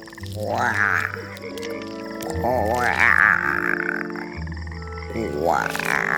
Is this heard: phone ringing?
no